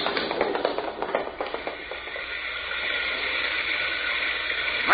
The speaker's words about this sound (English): Hey, I never saw rain like that before.